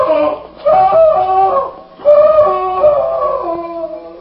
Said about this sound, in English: Sounded like a man in mortal agony.